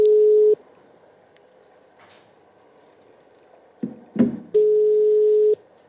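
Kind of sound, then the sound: signal or alarm, phone call ringing tone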